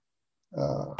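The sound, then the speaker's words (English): After a moment of silence, a dog gives a low, rough vocal rumble that ends in one sharp, loud bark. No one speaks. “Dog, you better hush. Don't make me come through that TV.”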